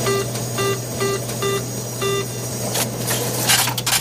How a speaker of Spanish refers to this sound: Si eres de los que siguen yendo al cajero, este sonido te resulta familiar.